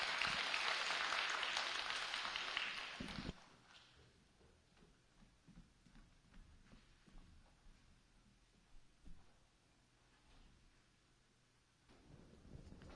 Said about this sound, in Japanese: それでは講談にお迎えをして、セミナーをしていただきたいと思います。神様に期待をして拍手を持ってお迎えしたいと思います。